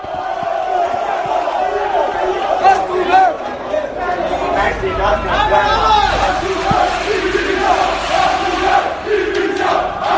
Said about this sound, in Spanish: estos aficionados han entrado precisamente buscándolo bajo el grito de "el Barça es nuestro", y se ha producido esa pequeña avalancha